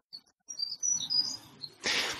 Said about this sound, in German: Wir hören gerade wieder dieses Vogelzwitschern. Mhm. Und du hörst es auf deine Art und Weise. Und ich höre es auf meine Art und Weise. Und andere Tiere hören vielleicht unterschiedlich das, was dieses Zwitschern sein mag.